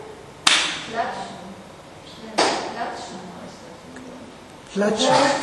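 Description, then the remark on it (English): Two sharp, loud slaps ring out a couple of seconds apart, each a crisp smack with a brief ringing tail, followed by a rougher burst of noise near the end. “How do you say slap?”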